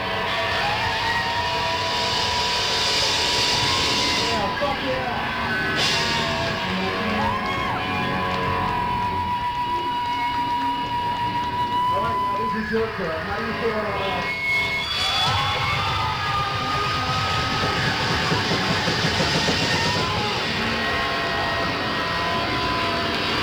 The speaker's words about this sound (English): We love you guys. We're gonna cheer you guys, and then you're gonna cheer us one last time.